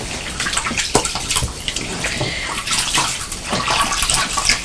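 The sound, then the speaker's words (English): Tap water runs steadily in a broad, hissing splash while a hand is rinsed, with irregular louder spatters and gurgles as the hand moves through the stream. No one speaks. “Let's just rinse this hand.”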